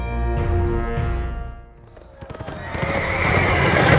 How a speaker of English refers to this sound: Hawk, Fisher, and Chance rode their horses full tilt through the crowded streets, Chappie loping along beside them, while arrows and knives and blunt objects of all kinds rained down from above.